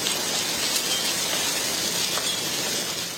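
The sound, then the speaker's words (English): Hail pours down in a dense, steady hiss and patter during severe thunderstorms in Fort Worth, Texas, with a couple of sharper cracks of stones striking a hard surface. No one speaks. “It is hailing in Fort Worth, Texas, as severe thunderstorms move through North Texas and parts of Oklahoma tonight.”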